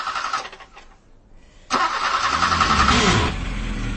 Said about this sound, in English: Maud picked me up at the local station, but was having some trouble getting the car started.